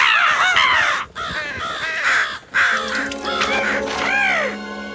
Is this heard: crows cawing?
yes